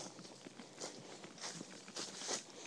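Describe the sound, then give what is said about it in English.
Footsteps walk steadily down a footpath in a quiet, tranquil spot, a series of soft crunching steps in an even rhythm with a brighter scuff every so often, fairly quiet with no talking. “Obviously hearing me coming down this footpath, but not seeing anything yet.”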